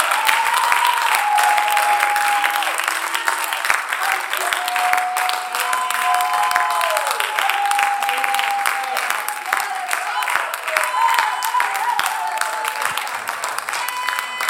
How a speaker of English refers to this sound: Let's clap our hands and let's thank him.